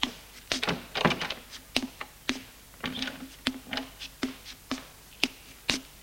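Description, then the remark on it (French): The door to a royal bedroom in a palace being opened: a rapid series of sharp clicks, knocks and dull thunks from the handle and latch, irregular in rhythm, with no voices. “Il ouvre la porte et entre.”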